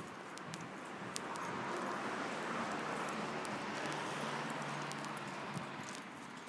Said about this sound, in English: Okay, traffic sounds like it's slowing down up here, so I don't know if that's for the crossroads. Could well be.